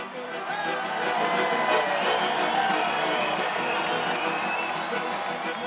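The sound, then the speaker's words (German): A large crowd of about 2,000 Roma and Sinti cheers and shouts in the audience hall as they welcome Pope Benedict, waving white and yellow cloths; a sustained, dense roar of many voices, steady and loud throughout, with excited calls rising above the wash of noise. “Mit großem Jubel und dem Schwenken weiß und gelber Tücher empfingen die Gäste den Hausherrn.”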